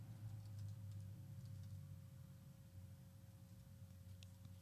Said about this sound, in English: I'm typing Uchi Wale, man.